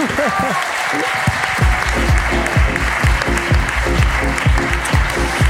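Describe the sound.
Loud, dense applause from an audience, a steady wash of many hands clapping, with a rhythmic low thumping pulse beneath it and some faint voices mixed in.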